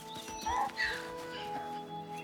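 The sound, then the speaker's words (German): A covered wagon's donkey gently nudges someone from behind, its hooves clopping softly while it gives a short snorting, whinnying call, over a steady tonal hum in the background. “Da stupste ihn der Esel des Planwagens sachte von hinten an.”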